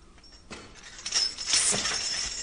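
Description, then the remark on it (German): Glass clinks and rattles on a fireplace mantel in a short, bright jingle that builds and lingers for about a second, with no one speaking. “Ich höre etwas auf dem Kamm klirren.”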